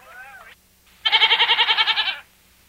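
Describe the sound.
A goat lets out a single loud bleat lasting just over a second, its voice quavering in a rapid tremolo, preceded by a short, softer wavering call and a brief pause.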